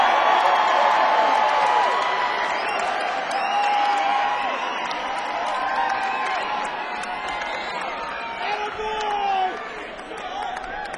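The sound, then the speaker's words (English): A loud, sustained crowd roar with clapping and whooping cheers, filling the whole stretch without a break and swelling briefly near the end before easing slightly. “Can we get a moderate amount of applause”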